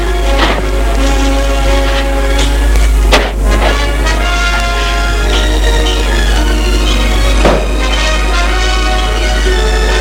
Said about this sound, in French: Bruit de la maison, les portes claquent.